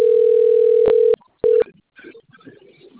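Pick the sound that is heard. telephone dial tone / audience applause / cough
telephone dial tone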